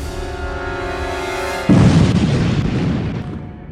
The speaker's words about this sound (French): C'est une violente explosion de gaz. Une terrible explosion. 1,5 au niveau sismique, presque l'équivalent de 200 kg de TNT à peu près.